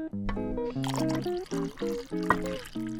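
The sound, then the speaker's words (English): Thick melted chocolate sauce is poured into wine in a steady, gurgling stream for about three seconds, with a soft splashy hiss under a melodic musical backing with stepped tones. “And you pour that into the wine.”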